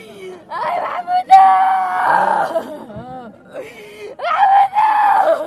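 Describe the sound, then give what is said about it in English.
A woman, the sister of a thirty-year-old man killed by a booby-trap device, wails at his funeral as his body is lowered into the ground: long, high, quavering cries broken by sobbing breaths, rising loud and anguished, with a brief lower moan in the middle. “His sister wails as they lower his body into the ground.”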